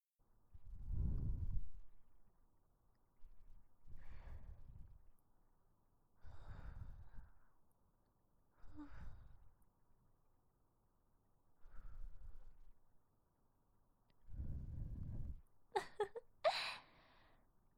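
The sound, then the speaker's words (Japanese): Soft breaths blown gently into the ear, about seven slow airy puffs spaced a couple of seconds apart, with a brief brighter rustle near the end and no talking. “お耳に吐息を吹きかけられるの気持ちいいですか。”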